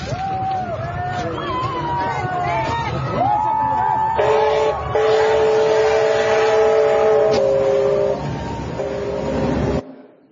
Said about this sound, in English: And even before the train got there, a track announcer kept telling people to stay back from the tracks as the train went by.